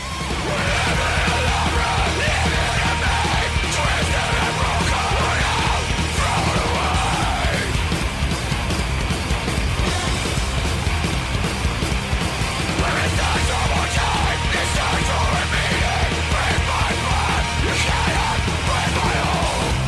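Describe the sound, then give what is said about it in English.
Loud, dense music with harsh screamed vocals runs continuously throughout, thick and distorted, with yelling that stays intense from start to finish. “anybody who wants to just sit there and play loud music and scream is trying to vent in some way, and the people listening to them, God bless you, because they suck.”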